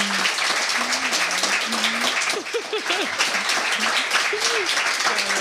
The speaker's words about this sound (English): So please give one more round of applause for her.